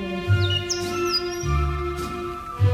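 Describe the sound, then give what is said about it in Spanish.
A small bird chirps and warbles in quick, sliding high notes over a steady background of sustained musical tones and soft low thumps, the bird sounding fairly clear. “Dime, pajarito, si para cantar mueves el piquito”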